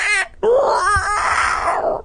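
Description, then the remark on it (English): A voice reading a Goosebumps book imitates giant crane-like birds at least 10 feet tall with loud, harsh squawks: a short cry, then a rising screech and a long, raspy call that fades out over about two seconds. “That was my best sound in all of the Goosebumps books so far.”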